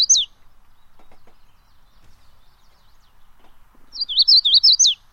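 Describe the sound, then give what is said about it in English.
Magnolia warbler song: a brief high chirp, a quiet pause, then a quick run of about six sweet, slurred whistled notes, clear, with no voices. “It is the magnolia warbler,”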